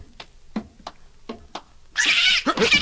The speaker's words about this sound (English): It's a cat! A cat! Get away! Get away! Stop kicking my cat!